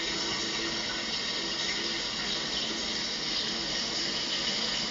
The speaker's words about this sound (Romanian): Personajul feminin care se bucură de un duș, nu-i așa? Toți ne bucurăm de această mică plăcere a modernității.